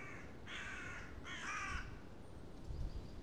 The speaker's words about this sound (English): With the crows circling ahead, it's quite ominous.